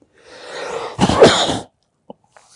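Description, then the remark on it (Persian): A single sneeze: a drawn-in breath builds for most of a second, then bursts into a loud, harsh blast that fades quickly, followed by a couple of small clicks. “گفتم حسود چیکار میکنه؟ یه عطسه.”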